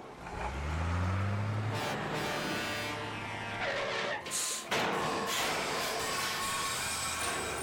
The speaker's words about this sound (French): Le camion poubelle est prêt pour aller vider toutes les poubelles de la ville. Allons-y les enfants, suivons-le.